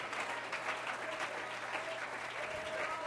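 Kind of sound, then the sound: crowd, audience clapping hands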